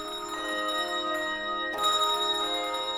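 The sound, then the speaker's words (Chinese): Bells ring steadily, bright sustained tones shimmering and overlapping, with a fresh strike partway through renewing the ring. Clear, with no voices. “钟声响，歌声起。”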